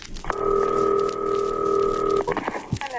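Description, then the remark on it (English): A steady, buzzing telephone dial tone holds for about two seconds, then cuts off into a few quick clicks and taps as a long-distance call to a caterer in Chicago is dialed, with no one talking. “Now, we're going to call Chicago tonight. We're going to call a caterer there.”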